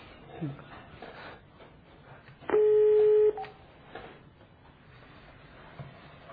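A single loud, steady telephone tone sounds for under a second as a phone call is placed, like a ringing or dialing signal, set against a low murmur of room noise and faint background voices.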